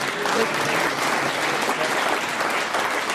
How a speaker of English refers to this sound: If you clap every challenge, I don't think we'll ever get in the show.